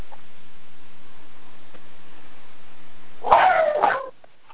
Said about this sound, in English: And if you have a puppy in the background, please press star 6.